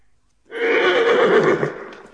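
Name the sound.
horse neighing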